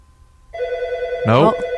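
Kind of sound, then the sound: signal or alarm, telephone ringing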